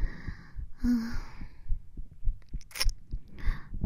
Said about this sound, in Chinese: 可以听到我的心跳吗？可以听到我的心跳吗？可以吗？可以听到。